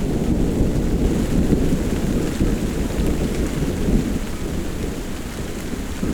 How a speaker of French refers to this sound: La pluie redouble.